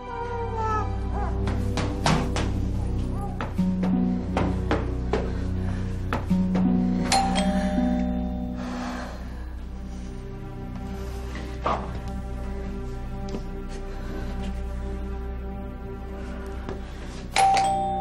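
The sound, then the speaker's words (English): A doorbell at a front door rings several times in a row, clear, its chimes sounding at uneven intervals over a steady low background hum; no one opens the door and no one speaks. “She didn't open the door. Looks like she isn't home.”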